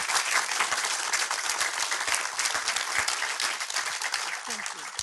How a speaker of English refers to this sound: So can we have one final generous round of applause for the team behind Gardening with Soul?